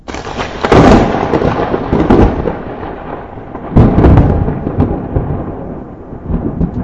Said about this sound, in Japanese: あら、何かしら、雷？怖いわ。